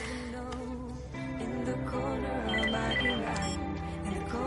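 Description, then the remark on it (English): A phone rings with a call from the clinic, a melodic, musical ringtone that plays continuously at a steady, fairly loud level, its repeated notes layered over a busy background. “Your phone. It's the clinic.”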